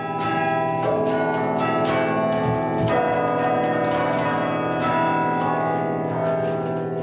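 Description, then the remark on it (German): Carillon bells ring out a pop melody, a Schlager played for the people at a market, with steady loud bell strikes and long overlapping resonant tones sustaining throughout, no voices present. “spielt den Schlager für die Menschen auf dem Markt und auch ein bisschen für sich selbst.”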